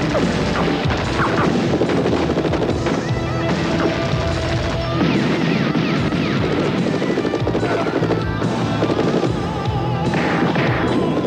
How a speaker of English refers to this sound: And almost everywhere they turned, the gunfire was almost as loud as the rock music on the soundtrack.